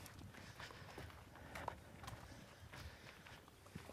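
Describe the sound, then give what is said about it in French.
Steady footsteps crunch along a trail at night, a regular walking rhythm of soft impacts with a faint outdoor hiss in the background and no voices. “C'est apaisant pour nos auditrices et nos auditeurs, ces bruits de pas dans la nuit.”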